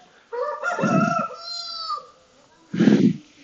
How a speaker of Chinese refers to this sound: 哦，现在经过一群公鸡，现在是下午快三点。公鸡不是说早上在鸣叫吗？还是这边的公鸡在迎接我们？